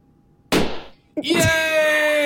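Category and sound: impact, balloons popping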